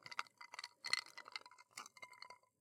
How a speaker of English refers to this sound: That's an ice cube.